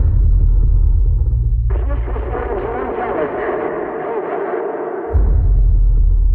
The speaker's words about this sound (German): Wir haben Rückkopplungen. Versuchen wir es auf einem anderen Kanal.